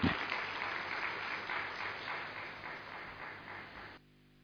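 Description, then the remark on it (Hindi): An audience applauds with steady, dense clapping for about four seconds, loud at first and gradually easing, before it cuts off abruptly into near silence. “एक बार तालियों से आप अपना अभिनंदन स्वीकार करें।”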